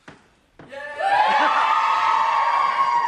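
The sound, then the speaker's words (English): A brief click, then a crowd erupts into loud, sustained cheering and high-pitched screams that swell within a second and hold steady to the end, answering a question about who wants to know who is on the main stage. “I thought that was the only time they weren't going to cheer then.”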